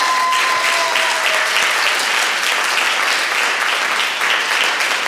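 An audience claps in a sustained, loud round of applause, dense and steady for about five seconds with no voices rising above it.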